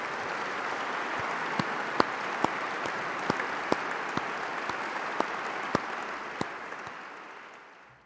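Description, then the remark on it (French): A large audience claps steadily for several seconds for prize laureates who have just stood up, a dense wash of applause with a few sharper individual claps standing out, before it gradually tapers off at the end. “Et maintenant qu'ils sont debout, vous pouvez les applaudir.”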